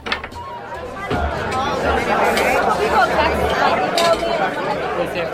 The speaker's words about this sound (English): A party going on right now.